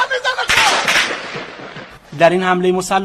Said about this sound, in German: als sie mit ihren Waffen das Feuer auf Teilnehmer und Zuschauer der Militärparade in der Stadt Ahvaz im Südwesten des Iran eröffneten. Im iranischen Staatsfernsehen sind die Videoaufnahmen, die während der Attacke entstanden, immer wieder zu sehen.